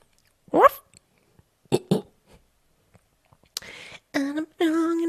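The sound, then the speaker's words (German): A person mimics a dog after the doorbell rings, giving two short, sharp bark-like yelps with pauses between, then a couple of longer, drawn-out howling tones, fairly loud with no other talk. “Wenn die Schelle schellt, dann belle ich.”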